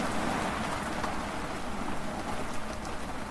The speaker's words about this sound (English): So the storm does not appear to be going away.